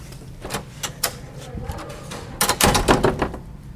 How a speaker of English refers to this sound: Oh, we're here. Let me just get this door open.